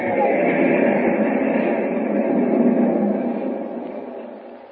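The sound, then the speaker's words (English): A moving passenger train in a Superman radio drama, carrying Lois Lane toward its next stop at Carson City, rumbles along steadily, a loud, continuous roar of wheels and carriages with no one speaking, easing slightly toward the end. “Will Superman arrive before Lois is taken off the train at Carson City?”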